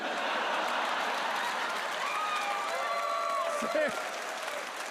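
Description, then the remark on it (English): Steady, dense clapping holds at an even loudness for about five seconds, with faint voices rising briefly underneath near the end. “He slow claps and beams.”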